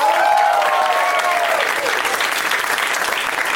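A crowd breaks into loud, sustained applause with whoops and cheers for comedian Ron Funches, dense clapping filling the whole stretch while high shouts ring out early on before settling into steady clapping.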